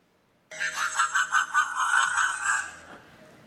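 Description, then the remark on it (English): A fishing cat calls with a quick run of pulsing, chattering notes that merge into a steady, buzzy, high-pitched cry lasting a couple of seconds, then cuts off. No one speaks. “That's my impersonation of a fishing cat. Which actually sounds more like this.”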